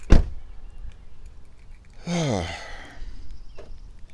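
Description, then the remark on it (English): A car door shuts with a single solid thunk in a parking lot at the Tranquility Softball Complex, followed about two seconds later by a harsh, falling tonal squeal against quiet outdoor background. “Okay, close the car door”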